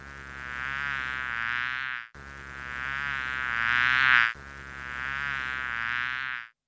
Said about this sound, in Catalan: Ui, si et pica, quin mal fa. Clar que sí, era l'abella. Un so ben difícil d'imitar.